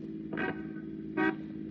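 A car engine hums steadily while two short, loud horn honks sound about a second apart, as a man drives his car away from in front of an apartment house on a street. No one speaks.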